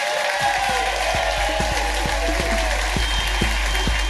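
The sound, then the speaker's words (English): A crowd applauds Richard Herring steadily, a dense wash of clapping that holds at an even, loud level throughout, with a few individual claps standing out and faint cheers mixed in. “Please give a massive rise and applause.”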